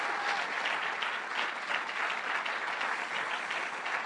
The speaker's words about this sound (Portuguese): Posso ouvir um glória a Deus bem forte, um aplauso bem forte ao Rei da Glória.